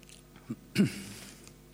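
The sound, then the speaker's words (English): Someone takes a quick drink of water: a small sip, then a louder gulping swallow, with no talking around it. “Sorry, I'm just going to have some water.”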